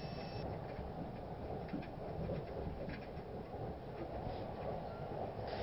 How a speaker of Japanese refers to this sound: お待たせしました。ご利用くださいましてありがとうございます。特別急行列車海事103号甲府行きです。